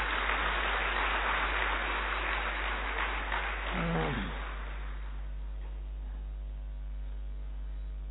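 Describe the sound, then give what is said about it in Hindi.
An audience claps in a dense, steady burst for about four seconds, then the applause stops abruptly, leaving only a low electrical hum. “हाँ मोहब्बत है ना, अच्छा ताली बजाओ मोहब्बत।”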